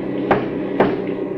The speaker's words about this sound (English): And you better warn our machine gun crew in the back. Right. Three knocks on the back of the cab.